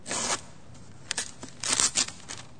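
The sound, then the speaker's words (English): Crisp bursts of tape peeling and wrapping paper tearing as a wrapped gift is opened and its ribbon pulled out: one long rip at the start, then several shorter, uneven tears and crinkles, with no voices. “As you pull out the ribbon, you're taking the wrapping paper off.”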